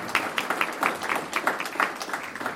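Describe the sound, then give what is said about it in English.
An audience claps steadily for a panel, a dense patter of many hands with no voices over it, sustained at an even moderate level throughout. “So, can we preemptively give our panel a round of applause?”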